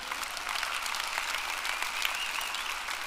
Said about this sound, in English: By the way, I didn't want to stop your applause. It's nice that you did that. Come on, give the Lord a hand.